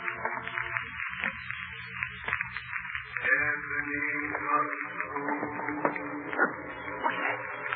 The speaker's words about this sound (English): Was that noise deep down below in the cellar as if someone were dragging a heavy chain? The sound grew louder on the cellar stairs, rose higher in the empty halls below, and then clanged and clattered on the stairs